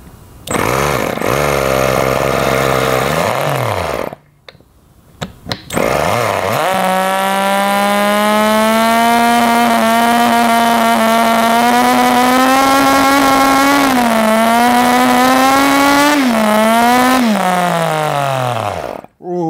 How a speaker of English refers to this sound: Sucker sounded like it was hitting some RPM there. Rob Dom would be proud. Just like a full-size rotary, this thing likes full throttle all the time.